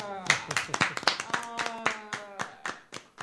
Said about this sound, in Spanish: Un aplauso para todos.